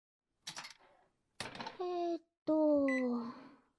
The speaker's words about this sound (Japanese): え？食器洗い機のボタンを押すだけでしょって？それでもお皿を運んでボタンを押したら私のおかげなの。